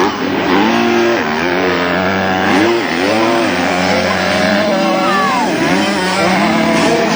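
Loud, high-pitched 125cc motocross bike engines, one a 2024 GasGas 125, rev continuously on a track at Païta, New Caledonia, their pitch climbing and dropping repeatedly as riders throttle up and ease off, with several engines overlapping.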